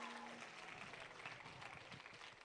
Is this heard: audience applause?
yes